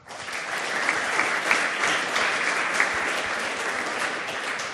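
A crowd applauds steadily, a dense wash of many hands clapping at an even, sustained level for several seconds, with no voices over it.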